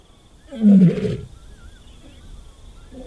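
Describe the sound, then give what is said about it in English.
A single deep, rumbling lion roar from the grasslands of the Serengeti in Tanzania swells loudly for about half a second, then fades, leaving a quiet background with faint, thin whistling tones. “today we start in the grasslands of Tanzania, in the Serengeti, to observe lions.”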